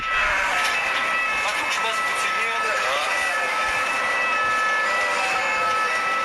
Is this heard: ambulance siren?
yes